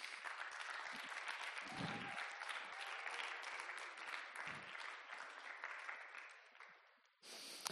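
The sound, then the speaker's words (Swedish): An audience claps steadily in a dense, sustained burst of applause for the Uprising Team, a youth leader team called up on stage, with a brief cheer rising through it early on, before the clapping thins out and fades near the end. “Ni kan ge dem en superstor applåd.”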